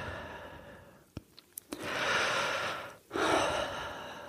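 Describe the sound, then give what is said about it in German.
A few soft clicks, then one deep, slow, conscious breath taken in, a brief pause, and a long, airy exhale. No one speaks. “Und anschließend kann es dann helfen, ganz tief und bewusst zu atmen.”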